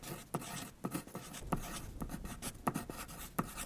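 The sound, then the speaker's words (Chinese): A pen scratches across paper, writing a letter home from inside a tent at night during a heavy rainstorm, with short, uneven strokes and occasional sharper taps as letters are formed, steady and quiet with no voices. “那三个女生待在里面也不知道要做什么，所以她们决定呢拿起笔写信回家。”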